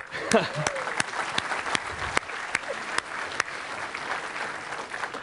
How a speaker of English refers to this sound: I'm going to applaud that guy.